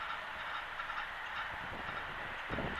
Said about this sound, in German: noch ein fahrender Zug. Eine bebende Brücke.